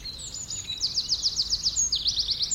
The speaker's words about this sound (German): Die vielen Vögel sind wunderbar zu hören, aber manchmal schlecht zu sehen, weil sie weit oben in den noch ausgedünnten Baumkronen sitzen.